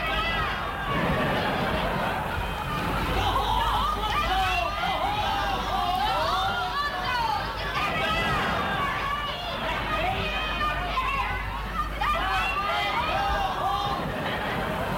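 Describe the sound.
A large audience roars and shouts continuously, a dense wall of overlapping voices and cheers that stays loud for the whole stretch.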